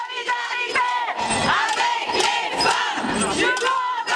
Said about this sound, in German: Auf der Place de la Ripon in Lausanne versammelten sich rund 500 Frauen, die mit Pfannen und Glocken für Lärm sorgten.